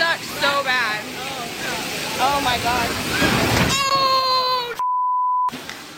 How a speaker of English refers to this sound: There's something that I noticed on that viewing I hadn't noticed before is that the actual falling of the ceiling knocks over the sign that says caution wet floor.